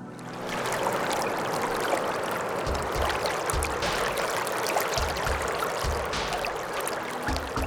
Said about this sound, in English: It's not stagnant water. It's not bad smelling or anything. It's just water looking for a place to go.